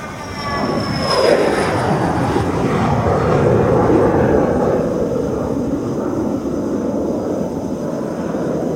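An airplane takes off at an airport where planes take off every five minutes, its engines building into a loud, sustained roar with a high whine on top. The rumble holds steady and then eases slightly as the aircraft climbs away.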